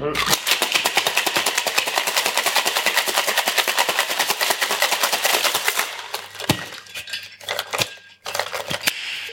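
A cocktail shaker rattles hard in a fast, steady rhythm for about six seconds, then slows into a few scattered, sharp clinks and knocks.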